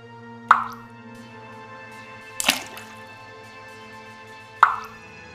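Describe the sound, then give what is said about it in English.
Water drips three times at slow, uneven intervals, each a sharp, ringing plop with a bright pitched tone, over a faint steady hum. The middle drip sounds slightly splashier. “I roll over, covering my head with my pillow, drowning out the nagging drips.”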